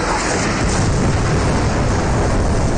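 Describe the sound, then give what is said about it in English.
Missiles raining down on a building whose roof is swarmed by zombies merge into one loud, continuous roar of booming rumble and crackling debris, steady in level for the whole stretch with no pause or voices. “Missiles rain down on the building.”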